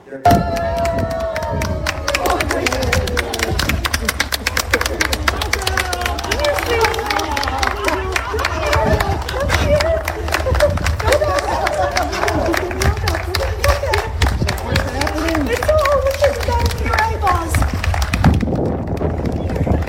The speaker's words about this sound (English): Here he is walking down, and they're all clapping the dog out of the shelter.